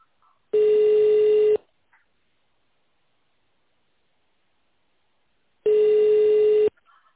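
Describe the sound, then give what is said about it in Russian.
Phone line tones on a company's phone line: two steady, buzzy mid-pitched beeps about a second long each, separated by roughly four seconds of silence. They follow a recorded greeting offering to dial an employee's extension or stay on the line for the sales department. No one speaks. “Сейчас вы можете набрать добавочный номер сотрудника или остаться на линии для соединения с отделом продаж.”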